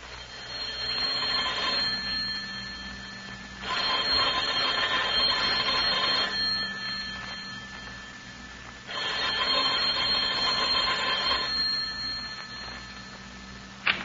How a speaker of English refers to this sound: That sounded like our phone, Teddy. Oh, I'll get it. Hello? Hello? Hello? Oh, darn. Well, if it was for us, they've hung up.